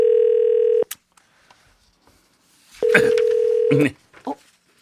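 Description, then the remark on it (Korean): A telephone ringback tone from a call placed during a broadcast phone-in game purrs twice, each steady electronic buzz lasting about a second with a two-second gap, followed by a faint click and some brief muffled noises; the call goes unanswered. “아 제발 받아주세요. 오늘 왜 그러세요? 오늘 아니 우리 전화번호가 어떤 번호로 가길래 오늘 그래요?”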